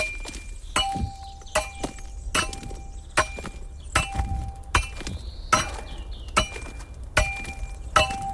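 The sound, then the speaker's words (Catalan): Hand tools strike marès sandstone in a steady series of sharp impacts, about one per second, each with a brief ringing tone, as the last manual marès quarryman cuts stone by hand in a quarry, before the process was mechanized. No one speaks. “Això és un enregistrament que vam fer del darrer trencador de marès a la mala, o sigui, manual, abans de que se mecanitzés el procés.”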